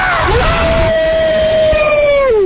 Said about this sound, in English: Hold on, where's Howard Dean? Listen to this primal scream. Give us some of this.